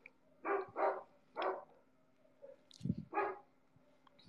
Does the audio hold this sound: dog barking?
yes